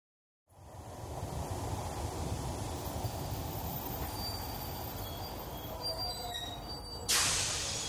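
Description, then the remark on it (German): A train rumbles steadily, with faint high wheel squeals drifting over the heavy low roar, then a sharp burst of hissing air near the end as it comes to a halt at its final stop, Mannheim main station, an hour late. “Mannheim Hauptbahnhof, bitte aussteigen, der Zug endet hier.”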